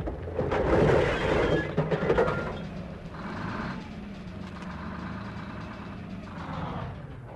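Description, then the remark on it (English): A tractor's diesel engine roars with a loud grinding, crunching burst over the first couple of seconds as it runs over a car, then settles into a steady diesel rumble and idle. “Stop! Oh, no! He's running over my car!”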